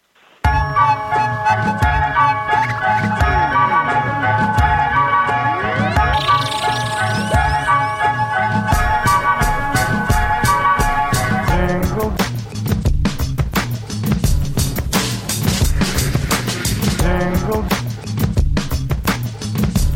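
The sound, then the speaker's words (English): A bright, festive instrumental Jingle Bells plays loudly and steadily on the show Max and Friends with no singing, bell-like chimes ringing over a sustained melody, then a busier, punchier rhythmic beat takes over in the second half. “We're going to play a quick song.”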